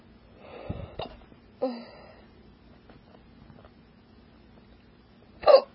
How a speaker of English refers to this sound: Ow. I was yawning.